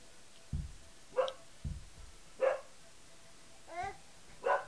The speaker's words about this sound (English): Oh, gonna go see why the dog's barking? He's barking because you're banging your head against the wall. She doesn't like that noise.